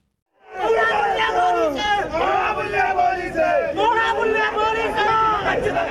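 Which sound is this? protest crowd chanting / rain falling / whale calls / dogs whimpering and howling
protest crowd chanting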